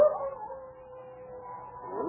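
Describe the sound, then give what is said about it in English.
A dog, Lobo, mostly wolf, howls in one long, drawn-out wail coming from a cabin just off the trail, sliding in pitch at the start and end, fairly faint, with no voices present. “Jules, is that a dog howling?”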